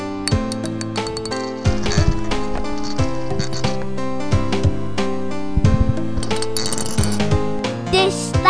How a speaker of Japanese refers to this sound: これのコマはあと5つあるから6つあります。コマを回してぶつけて喧嘩をさせます。回す音です。